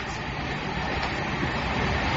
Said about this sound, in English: Hello, I'm on the train now. Good, I'm at the station. The train is going up the hill.